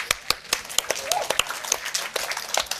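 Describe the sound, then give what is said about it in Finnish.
A brief, modest round of applause from a few people in the Kulttuuri Ykkönen studio at Oodi during a live broadcast: sharp, irregular handclaps of medium loudness, scattered and overlapping for a few seconds with no one talking. “Otetaan pikku aplodit.”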